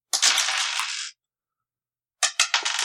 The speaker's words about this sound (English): You don't have to make any raises. We'll roll the die and see how well we do.